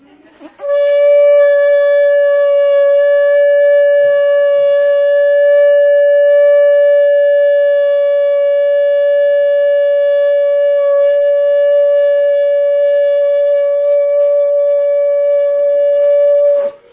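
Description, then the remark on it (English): A shofar ram's horn blown in one long, unbroken blast of about sixteen seconds, a loud, steady, brassy tone rich in overtones that holds its pitch before cutting off. “he blew that shofar so everyone could hear that the sacrifice is being offered”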